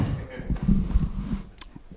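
Mouth sounds of someone chewing a peppermint candy, with soft, irregular wet smacks and faint clicks, plus a muffled murmur underneath.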